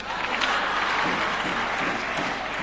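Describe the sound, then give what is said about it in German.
An audience at a speech claps steadily for a few seconds after being invited to clap, a dense, even wash of many hands with no pauses and no clear voices rising above it. “Jetzt könnt ihr auch klatschen.”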